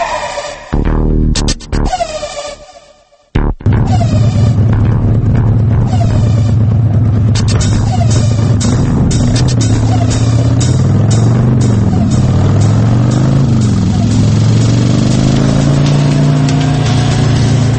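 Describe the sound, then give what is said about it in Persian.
A motorcycle engine runs loud, its rough drone rising and falling as it revs, with a brief cutout near the start before the steady roar continues. “و اما موتور سیکلت.”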